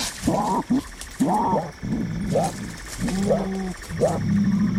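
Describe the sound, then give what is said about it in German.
Mongoose vocalizations: a series of about six raspy, croaking calls, fairly loud, repeating in quick irregular bursts over a faint steady background hum, with a hissing, toad-like quality. “Raubtiere und jetzt, wo man weiß, welches Tier das angeblich war, Mongoose, habe ich auch mal nachgeschaut, wie das klingt.”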